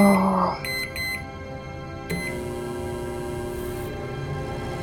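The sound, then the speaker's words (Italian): A microwave oven inside a robot hums steadily while three short, high electronic beeps sound in quick succession, followed by a sharp click and the continued even drone of the running appliance. “Dentro al robot c'è un forno microonde, così il robot prepara il suo stuzzicante piatto.”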